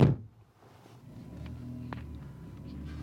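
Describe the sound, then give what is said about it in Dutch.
A car door thuds shut with one heavy thump as people get back into the car, followed by the low hum of the vehicle interior and a couple of faint clicks. “Stappen wij weer in de auto.”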